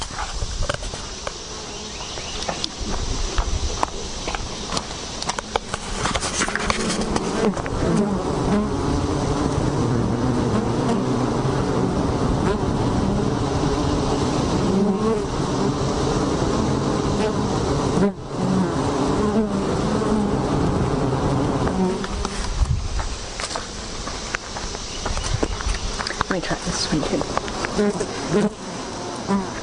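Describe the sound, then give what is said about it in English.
A dense, steady hum of honeybees buzzing at a hive, loud, swelling in a continuous drone with overlapping wingbeat tones and no pause for the full length. “So now we're going to talk to the bees.”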